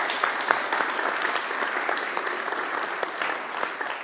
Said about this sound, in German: Habt ihr mal gesehen, wie schön das hier heute wieder dekoriert ist? Ich denke, das ist mal ein Applaus wert.